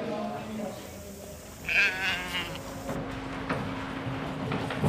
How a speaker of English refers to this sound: Just beyond the fleece judging room are the sheepyards. Trucks arrive unloading heavily fleeced animals who wait their turn to head on stage. There'll be 4,000 shorn over the three-day competition.